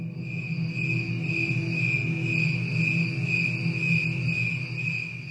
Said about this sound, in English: You will hear two audio tracks. The first is the recording of the normal cricket singing into the night.